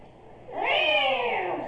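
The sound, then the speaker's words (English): A person mimics an angry cat with one loud, drawn-out meow that rises quickly and then slowly sinks, with no talking around it. “What if the cat's mad?”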